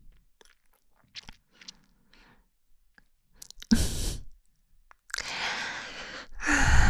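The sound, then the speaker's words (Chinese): A breathy yawn bursts out after a few faint mouth clicks, then a second, longer drawn-out yawn follows, loud and airy, with no talking. “看你哈欠连天的，脑子都转不动了吧？”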